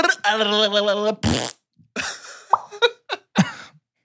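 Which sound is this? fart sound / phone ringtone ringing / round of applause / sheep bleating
fart sound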